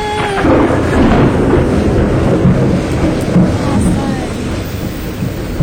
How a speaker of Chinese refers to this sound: 我靠，他又打雷。